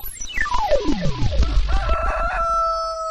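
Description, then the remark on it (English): A rooster crows loudly, a sustained harmonic call that follows a quick falling, whistle-like sweep, with no voices present. “Live from Chicken Town.”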